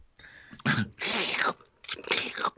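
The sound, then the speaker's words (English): An exaggerated, noisy slurp through a drinking straw, fairly loud, coming in three gurgling, hissy bursts with short gaps between them, and no talking. “That deserved a shade slurp.”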